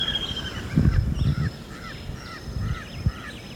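A crow calls repeatedly in a series of short, harsh, nasal caws. A thin, high bird tone and a low, rumbling background sit beneath the calls, with no talking.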